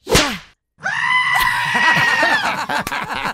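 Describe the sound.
A woman slaps her own buttocks with a sharp slap, and after a brief pause she lets out a long, loud, high-pitched scream that holds steady for a few seconds while other voices murmur faintly underneath.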